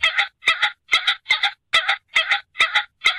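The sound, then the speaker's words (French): A pheasant calls as it comes in to land, in a fast, steady series of raspy, clucking bursts, about two or three per second, loud and with no voices over it. “Je vais dire le faisan. Eh ben, bien joué, ….”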